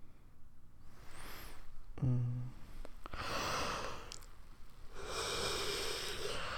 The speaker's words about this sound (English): See? Sleepy yawn.